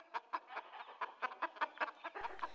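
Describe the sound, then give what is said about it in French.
A crowd of hens in a hen house, kept in small stacked cages, all clucking at once, their short overlapping calls forming a busy, deafening, steady chatter with quick rhythmic pulses and no voices. “Toutes les poules caquetaient en même temps, ce qui était assourdissant.”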